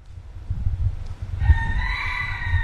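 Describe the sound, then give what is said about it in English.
A rooster at Key West International Airport crows once, a drawn-out harmonic call starting partway through and holding to the end, heard over a steady low rumble of outdoor background noise. “And yes, for the record, Key West International Airport has a rooster, several of them.”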